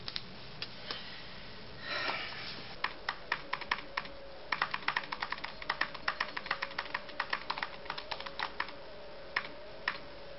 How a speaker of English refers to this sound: Computer? Computer? Ah. Hello, computer. Punch the keys, for God's sake! The keyboard. How quaint.